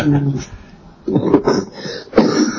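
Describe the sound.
A brief voiced murmur gives way to two rough coughs with some throat clearing, spaced about a second apart and fairly loud.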